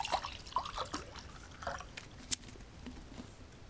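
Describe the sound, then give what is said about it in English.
Water is poured into a glass and sipped, heard as soft trickling and splashes with a few small drips and clinks, quiet overall and without any talking. “I want to have a drink of water.”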